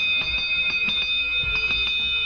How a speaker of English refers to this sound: Somebody left a bell in the control room here, and I thought it would be apropos to lay a little bell noise